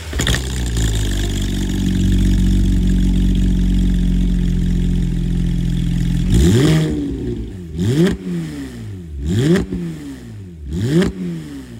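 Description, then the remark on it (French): The flat-six engine of a GT3 sports car with a manual gearbox idles loudly and steadily, then gets blipped through four or five sharp revs, each rising and falling quickly, with no voices. “Et tu vas voir que le son du flat 6.”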